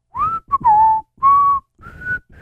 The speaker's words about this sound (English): Did two people whistle just now? I was whistling a little bit.